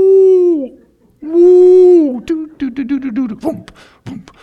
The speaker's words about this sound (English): a star in its rotation makes a thumping sound, boom, boom, boom, boom, boom, boom, boom. And then he found a cluster of stars that make this sound, doo, doo, doo, doo, doo, doo, doo, doo, doo. And then he put a whale song together with it.